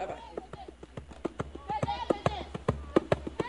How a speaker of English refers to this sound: A few blocks away from Dean headquarters, a red-cheeked cluster of fervent Denis Kucinich supporters stomp their feet against the cold and dance to the drums as darkness falls Saturday night.